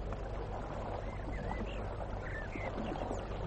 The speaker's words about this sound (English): Now, listen. What do you hear? A brook.